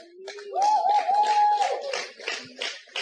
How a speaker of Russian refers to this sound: Ребята, вот кто-то хлопает, кто-то от этого пострадал.